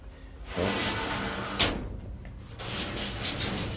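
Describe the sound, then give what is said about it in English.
A wooden shed door is dragged and pushed shut, with scraping and rattling, a sharp knock partway through, then a few lighter bumps as it settles. “That's the door's closed.”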